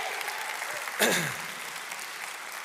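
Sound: audience clapping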